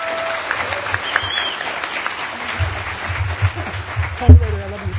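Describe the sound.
A crowd at DEFCON applauds the event staff steadily throughout, a dense, sustained patter of many hands clapping, with a few indistinct voices and shouts rising over it near the end.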